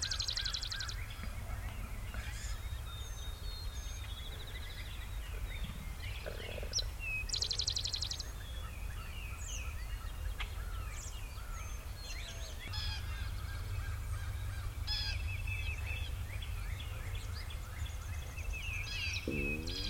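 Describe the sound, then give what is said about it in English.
A wild turkey hen calls repeatedly outdoors, her yelps mixed with a busy chorus of other birds over a steady low rumble of wind, with no talking. “Hear that? Now the sun's hitting her again. And that hen started to crank up.”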